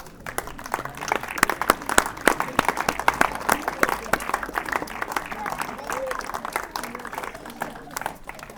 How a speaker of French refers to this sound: Pour commencer la cérémonie, on peut applaudir les enfants.